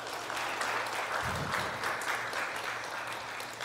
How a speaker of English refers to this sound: I think, yeah, let's give him applause for that.